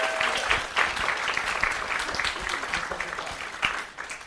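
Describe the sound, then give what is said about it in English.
Sustained audience applause: many hands clapping in a dense, steady crackle that holds at an even loudness throughout, with a few sharper individual claps standing out. No one is talking. “Please give one more round of applause and thank you for coming.”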